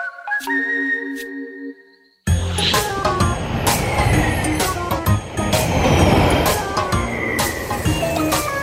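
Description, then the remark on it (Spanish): A few sparse electronic beeps and tones sound first, then a loud, busy bumper-car ride kicks in, with rumbling motors, clattering bumps and ongoing beeping, continuous. “¿Carros chocones?”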